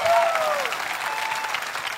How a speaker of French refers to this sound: Applaudissez Noël!